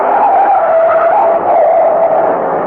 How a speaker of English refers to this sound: look out! That truck!